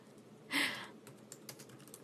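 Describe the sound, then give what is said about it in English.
Typing with one hand on a computer keyboard: a louder clatter of keys early on, then a few sparse, soft clicks spaced irregularly, heard alone at low volume without any talking. “That's the wrong way to word it, but I'm typing with one hand, so.”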